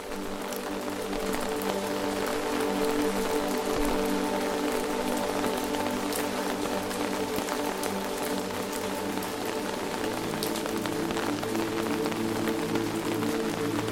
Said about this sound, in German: Alle deine Sinne sind geschärft für die Wunder, die noch vor dir liegen, während der Regen monoton auf deinen Schirm prasselt.